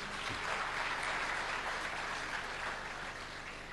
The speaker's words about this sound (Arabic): انت مطوع صغير ما شاء الله، ذا هذا مطوع قطع عشرة، صفقوا له شجعوه ما شاء الله.